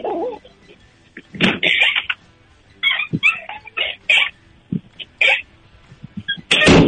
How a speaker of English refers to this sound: That was the squeakiest door I've ever heard. Squeak that door. Squeak that door again. I want to hear that again,